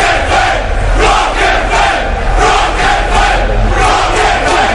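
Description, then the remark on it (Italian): A large crowd on Via Locatelli shouts loudly and continuously, chanting "Rock FM", their voices rising and falling in a steady rhythmic chant with repeated surges about twice a second, with no single voice standing out. “Eccola via Locatelli che urla.”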